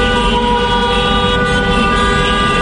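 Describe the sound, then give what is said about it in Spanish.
Loud, continuous blaring of vehicle horns layered into a sustained chord, over a heavy, rumbling tractor-engine drone, with no talking: tractors and cars at a protest demonstration on Calle San Vicente in central Valencia, on the morning of Thursday 29 February. “Tractores y también coches que acompañan a una nueva manifestación, concentrados en plena calle San Vicente a lo largo de esta mañana en el centro de la ciudad, y con la idea de trasladarse a la Plaza del Temple frente a la delegación del gobierno”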